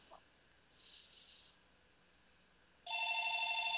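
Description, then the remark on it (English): A telephone starts ringing after a quiet stretch, a steady electronic trill with bright high tones that holds loud and continuous to the end. No one speaks. “Uh-oh. There's the phone. Hold on, I will answer that.”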